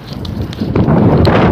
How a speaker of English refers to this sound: that wind is coming right off the North Pole, holy cow.